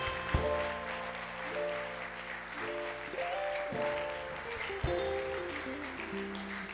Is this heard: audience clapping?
yes